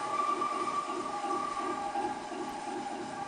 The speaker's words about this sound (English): I think it's a train.